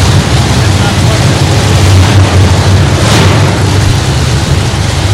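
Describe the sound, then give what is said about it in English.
A Porsche 911 sports car engine drones steadily with a deep, loud rumble under a constant roaring rush, swelling briefly about three seconds in as it drives in. “Now, I'm confused because I thought we only had team cars coming through today.”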